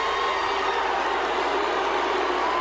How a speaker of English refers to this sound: So a lot of people on social media were concerned that he was being booed. They're not booing him. They're yelling, Luke.